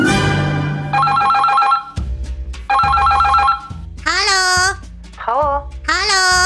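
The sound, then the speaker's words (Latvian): A telephone rings in two loud, trilling bursts separated by a short pause, then a high, sing-song babbling voice answers in quick, swooping phrases as the Latvian Radio archive's 'wise rat' character. “Halo, Latvijas radio arhīva gudrais žurks klausās, kas zvana?”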